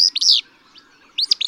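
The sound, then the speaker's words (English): A bird in a marsh gives short, explosive buzzy calls, two quick bursts close together, a pause, then another pair, sharp and sneeze-like, clear with no talking. “A second sounds like a sneeze.”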